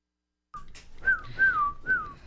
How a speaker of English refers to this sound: I like whistling to it.